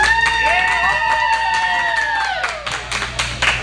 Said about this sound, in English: We got a small but vocal crowd here tonight, Coach. We do, but I'm very appreciative of that vocal crowd.